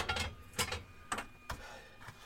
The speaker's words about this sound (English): You can probably hear the workshop now.